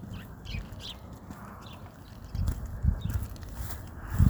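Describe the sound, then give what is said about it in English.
Baby birds chirp in short, high, scattered peeps, fairly faint, over a steady low rumbling background with occasional thumps. “Guess we got a bunch of baby birds there too.”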